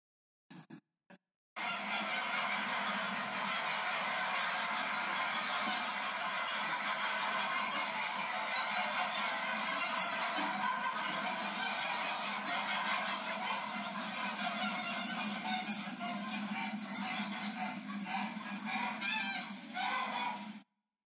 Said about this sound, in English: I don't keep cattle, but I do keep geese. And I got the feeling they're a bit similar.